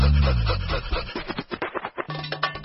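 Dogs bark and pant: a deep, drawn-out growly bark opens, followed by a quick run of rhythmic, breathy panting bursts, then a brief low whine near the end.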